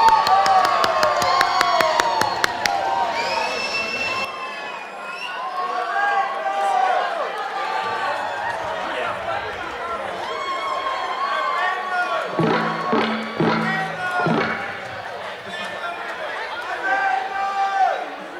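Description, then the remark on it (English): A crowd applauds and cheers for a band playing live at a beer venue in Morningside, with dense clapping strongest at the start and excited shouts and whoops rising above a steady roar of voices throughout. “And to everyone out there, give them a round of applause.”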